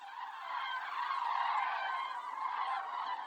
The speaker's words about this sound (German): bildet sich so ein Strudel aus Vögeln.